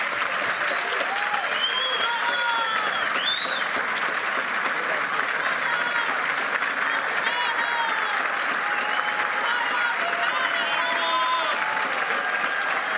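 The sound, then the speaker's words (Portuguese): A large audience gives federal judge Sérgio Moro a long, loud standing ovation at the close of his press conference after his lecture opening the Jovem Pan forum Mitos e Fatos in Brazil; dense clapping holds steady throughout, with scattered cheers and whistles rising above the applause. “Aplaudido de pé no encerramento dessa, como disse Augusto Nunes, grande entrevista coletiva após a palestra do juiz federal Sérgio Moro, abrindo o fórum Mitos e Fatos, Jovem Pan discute a justiça brasileira.”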